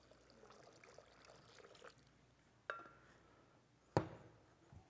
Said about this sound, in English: So what's in here? Some dirt. Well, we gotta add some water.